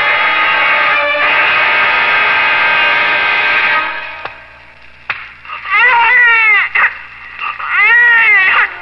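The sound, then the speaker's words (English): A newborn baby boy cries loudly just after birth, following a slap by the doctor, starting with a long, steady wail, then after a short pause giving two more shrill, wavering bursts of crying. No one speaks. “A skillful slap by the doctor, and my son was thrust into the world with a lusty cry of protest.”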